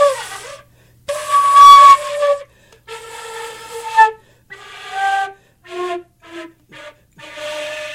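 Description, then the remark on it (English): A broken Gemeinhardt flute, with broken internal rods and springs so only the bottom section works, played alone, giving breathy, hissing tones that waver and crack, first in longer held notes, then in a string of short, choppy bursts at shifting pitches. “But there are broken keys inside that, or broken rods and springs, I should say, which makes it really hard to produce a sound here.”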